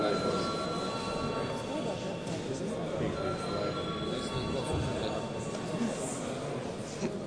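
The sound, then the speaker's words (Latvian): The voting bell of the Saeima rings as a steady, sustained high tone for several seconds, calling deputies to vote on a draft decision, over a low murmur of many voices and shuffling in the chamber. “Lūdzu zvanu.”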